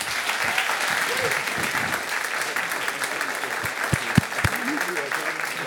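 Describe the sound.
An audience claps steadily throughout, a dense, sustained wash of applause with a few sharper individual claps standing out near the end; faint voices murmur underneath.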